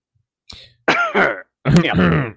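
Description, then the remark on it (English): A person fakes a cough with their voice: a soft breathy puff, then a few loud, throaty, voiced hacking bursts. “This is where we should have a sound effect of a cough.”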